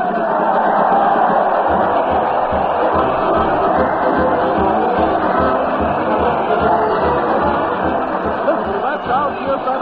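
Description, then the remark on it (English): A dense, loud crowd at a parade to the old town hall roars continuously for about ten seconds, hurling insults at the Allen Art players: a steady wall of overlapping shouts and chatter with no single voice standing out. “Fred's hurling kisses to the crowd, and the crowd is hurling insults at the mighty Allen Art players. Let's join the happy throng.”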